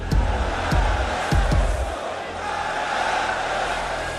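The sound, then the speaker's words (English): A large crowd of mourners at the funeral of Ayatollah Ali Khamenei chants "death to Israel" and "death to America" in unison. The massed voices rise and fall, with a few heavy rhythmic thuds in the first couple of seconds before a steady roar of voices continues. “Some mourners say they want revenge, the crowd at times chanting death to Israel and death to America.”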